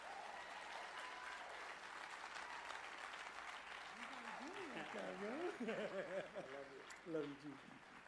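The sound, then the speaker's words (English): An audience applauding to welcome a pastor one morning, a steady, dense wash of clapping for about eight seconds, with voices calling out over it in the second half and swelling slightly louder toward the end. “Put your hands together. Help me welcome this morning,”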